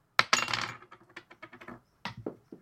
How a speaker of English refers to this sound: That was the worst dice roll I've ever fucking seen. Let's just take it from this dice. Oh, a six, you say.